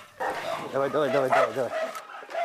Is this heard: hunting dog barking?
yes